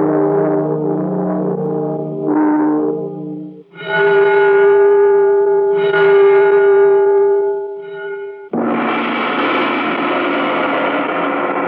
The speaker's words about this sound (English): Now you're about to hear some bells. Listen closely, remember their sound, and we'll have your test question for you just as soon as you monitor this.